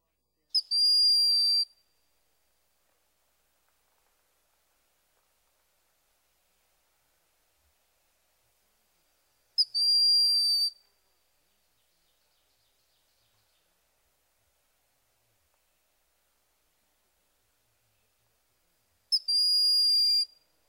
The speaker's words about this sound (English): The call of the broad-winged hawk is a high-pitched, thin whistle.